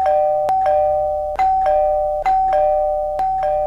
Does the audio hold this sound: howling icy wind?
no